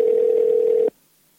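A single steady, mid-pitched ringing tone of an outgoing call placed from a plugged-in iPhone to a comedian holds evenly for just under a second, then cuts off abruptly into silence. Nobody speaks.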